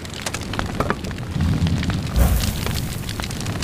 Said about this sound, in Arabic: يا رجال، زيدوا الحطب وأوراق الشجر الجافة، يجب أن تظل النار ضخمة متأججة، فرؤيتها بالنهار صعبة. زيدوا الحطب يا رجال.